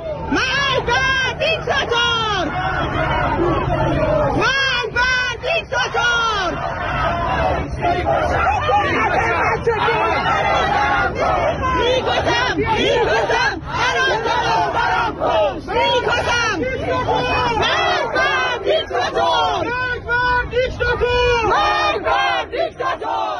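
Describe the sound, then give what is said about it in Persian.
A large crowd of protesters at a protest gathering in Sattarkhan, Tehran, Iran, chants and shouts together in a loud, continuous roar, many voices rising in rhythmic waves of rally cries with dense babble underneath throughout. “صدای یکی از این تجمعات رو بشنویم.”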